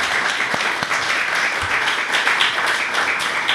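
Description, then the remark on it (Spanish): Steady audience applause, a dense wash of many hands clapping at an even level throughout, with a few sharper individual claps popping out of the crowd noise. “Un aplauso.”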